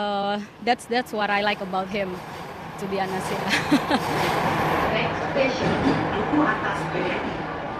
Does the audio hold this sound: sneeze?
no